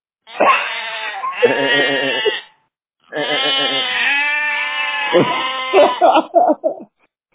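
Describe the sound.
A voice imitating sheep, letting out two long, wavering bleats with a brief pause between them, loud, the second trailing off in shaky pulses.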